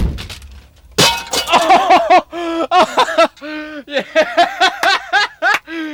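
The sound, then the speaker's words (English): A door is deliberately slammed as loud as possible, a hard, loud, slightly distorted crash about a second in, followed by several seconds of rhythmic voiced sounds like laughter and voices. “let's see how loud I can make this door slam.”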